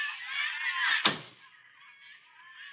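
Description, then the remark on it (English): A door is swung shut with a single sharp thud about a second in, closed by a man during a phone call, amid a hissy, noisy background that quiets down afterward. No one speaks. “Just hang on the phone a minute while I close the door here so as I can...”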